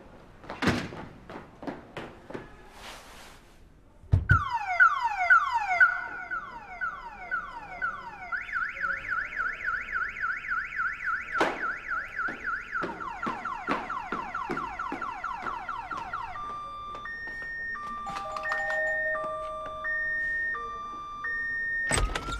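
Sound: car alarm going off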